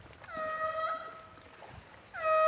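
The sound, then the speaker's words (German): A sea lion gives a long, nasal, horn-like call, then starts a second loud call at the end, both rich in harmonics, over a low wash of water-like background noise. “wir hören einen der Seelöwen, eine der Robben, würdest du wissen, wer es ist?”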